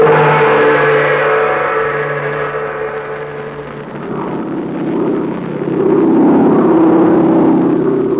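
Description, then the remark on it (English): A plane's engine drones steadily and loudly as it flies through the dark night over China, a low humming tone with a rough, buzzing texture that dips slightly midway and then swells back up. No voices. “The drone of a plane flying through the blackness of the China night brought Terry and Pat Ryan a new problem.”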